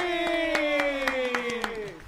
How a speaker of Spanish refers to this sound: Exactamente, entonces, ¿te late si le damos un aplauso? Por favor, vamos bueno, varios. A darle varios grandes aplausos